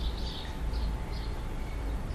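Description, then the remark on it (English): Scattered bird chirps, a few short high calls spaced irregularly, sitting over a steady low rumble of background noise with no voices. “But now that I brought them close to you, they can become part of a new landscape.”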